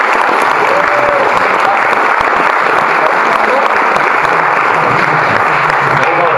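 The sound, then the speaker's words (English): Loud, sustained applause from a large audience at an award ceremony, a round of applause for an absent winner: a dense steady wash of clapping that holds at full strength throughout without pausing, with no voices standing out above it. “And one more round of applause for the wonderful work.”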